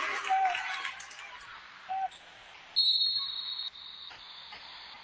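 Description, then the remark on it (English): A sharp, high-pitched referee's whistle blows for a foul during a women's basketball game, one sustained blast of about a second over steady crowd noise, with a couple of shorter, lower squeaks before it. “There's going to be a whistle and a foul, and that one's going to go against Kirsty Lake.”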